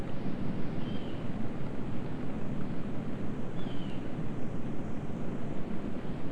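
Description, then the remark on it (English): A passing train, heard outdoors in wet, rainy weather, makes a steady, heavy low rumble that fills the whole stretch, pulsing slightly, with two brief faint high squeals riding above it. No one speaks. “Oh. I hear a train.”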